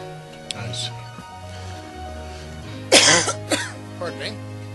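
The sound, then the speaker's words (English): A low, murmuring voice gives way to two or three harsh coughs and a rough throat clearing in quick succession, loud against the quiet around them. “Get that damn cough back.”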